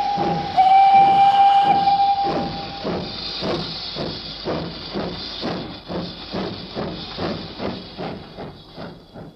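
A steam locomotive pulls away with a loud rush of hissing steam and a brief whistle as passengers are told to board, then settles into steady, rhythmic chuffing that gradually fades slightly. No voices.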